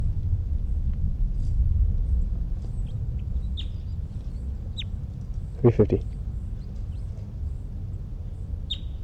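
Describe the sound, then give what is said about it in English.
A bird, thought to be bird number 305, sings in short, high, scattered chirps over a steady low rumble, broken midway by a brief, louder, harsh burst of two or three quick notes. “It's 327, and I think it's 305 who's in song.”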